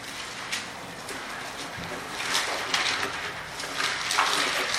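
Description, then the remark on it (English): Many Bible pages turning at once as a church audience turns to Isaiah chapter 11, a steady papery rustle of overlapping flips and swishes that grows somewhat louder and busier in the second half, with no speech. “I hear those pages turning out here in the church.”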